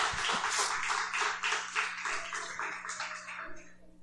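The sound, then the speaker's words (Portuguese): A crowd at a church worship service applauds steadily for about four seconds to welcome a couple invited to give a testimony, a dense patter of many hands clapping at once that thins and fades toward the end, with no one speaking. “Então eu queria que vocês dessem uma salva de palmas”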